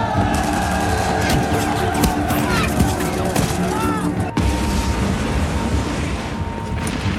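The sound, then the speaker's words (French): Battlefield explosions and gunfire, including German machine-gun bursts at the front line, fill the scene with a dense, constant roar. Sharp cracks and heavier booms break through repeatedly, loud, with no pause in the noise. “Dans cet univers apocalyptique du champ de bataille, où le jour et la nuit finissent par se confondre dans les détonations et la fumée des explosions, Joseph Darnand endosse les habits d'un casse-cou.”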